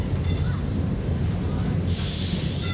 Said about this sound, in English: Michael Rusenberg and Hans Ulrich Werner recorded this soundscape of the Lisbon-Portugal tram, the city's streetcar system.